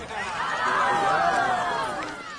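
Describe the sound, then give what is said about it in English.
A crowd cheers outdoors in a valley in the Kentucky hills as Kentucky Governor Paul Patton unlatches a trailer door to release elk, many voices blending into a steady, lively roar that swells slightly in the middle and holds for a couple of seconds. “Throughout the valley, you could hear the cheer of the crowd.”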